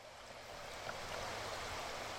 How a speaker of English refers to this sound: The incubator room at Tutka Lagoon Hatchery is noisy with the sound of water dripping from rows of stacked aluminum trays. There are 6 rows, each of them about 10 feet high and 45 feet long.